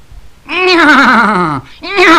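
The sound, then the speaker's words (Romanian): A horse neighs loudly, a long quavering whinny that slides downward, then a second neigh begins right after a brief pause. “Harapalb atunci încalică și calul nechezând odată puternic”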